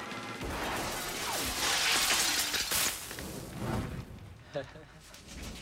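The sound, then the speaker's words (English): Gunshots fired by an armed clerk outside a liquor store shatter the Superior Liquor sign, a loud, sustained crash of breaking glass and debris lasting several seconds, followed by a few smaller clinks and rattles as pieces settle. “Outside, when the Clark sees they've gone, he shoots the Superior Liquor sign instead.”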